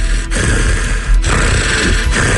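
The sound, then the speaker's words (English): A voice imitates its own loud, heavy sleep breathing: three long, rough, rasping breaths in a steady rhythm, each cut by a brief pause, loud and noisy across a broad range, with no words spoken. “I woke myself up here recently annoyed by who was breathing so damn loud.”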